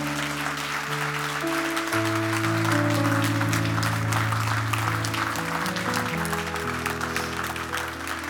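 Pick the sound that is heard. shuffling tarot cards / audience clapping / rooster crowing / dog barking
audience clapping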